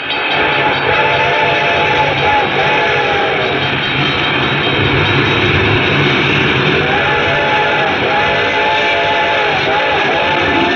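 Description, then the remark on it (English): An approaching train rumbles steadily with a loud, broad roar while its whistle sounds in long, wavering tones, with its bell ringing throughout. “train was coming closer. I could hear its bell ringing and the cry of its whistle.”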